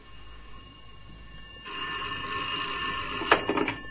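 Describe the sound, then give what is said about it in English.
A telephone starts ringing partway through, a steady, fairly loud electric bell tone that carries on to the end with a few sharper clattering bursts near the close. No one speaks. “Give me the phone.”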